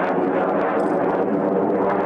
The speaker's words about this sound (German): Das Radio meldet Termine für Überschallflüge, die in der Stadt die Wände zum Wackeln bringen. Der tosende Lärm tieffliegender Jets heißt hier Sound of Freedom.